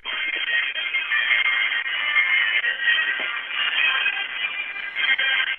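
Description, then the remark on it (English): A handbell choir from Hillsboro, Oregon plays in a parade, heard over a phone held up to it: a steady wash of overlapping ringing tones, thin and muffled, with no voices on top. “It's a bell choir, handbell choir from Hillsboro, Oregon.”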